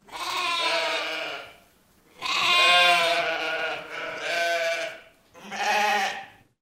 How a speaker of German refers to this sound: Und jetzt ich. Wer ist das? Mäh, mäh. Das Schaf.